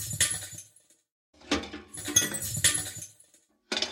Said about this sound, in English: and combined that with a sweeping noise, and that gives you the impression of someone sweeping up little bits of glass.